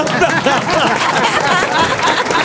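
A studio audience claps steadily and fairly loudly for a correct quiz answer, a dense wash of clapping mixed with crowd chatter and some laughter throughout.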